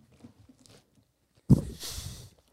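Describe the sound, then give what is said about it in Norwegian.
After a second and a half of near silence with faint mouth noises, a sudden crunchy bite into the sugary edge of a homemade cinnamon bun is followed by under a second of chewing. “Du tar den beste biten, ja.”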